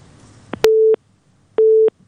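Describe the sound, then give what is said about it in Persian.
A telephone busy signal after a caller's line to the call-in program 'Women Leaders' is cut off: two steady, mid-pitched electronic tone bursts, each lasting about a third of a second, separated by silence, preceded by a faint click and low line noise. “خب تماس اینا قطع شده.”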